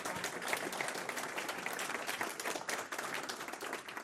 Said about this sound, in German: Ja, erstmal Beifall.